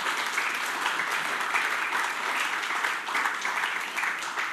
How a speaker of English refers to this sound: Yes, worship team, thank you so much. Let's give them another big hand clap.